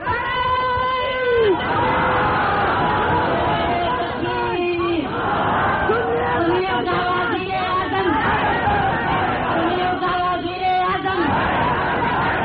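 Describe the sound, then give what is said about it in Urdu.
A large crowd of voices raises loud, continuous slogan chants, with repeated rising and falling phrases coming in waves over a constant hubbub of shouting and babble. “تم نے اگر سوئے سوئے نعرے لگانے نا تو پھر چھوڑ دے، کوئی کسی اور کو دے.”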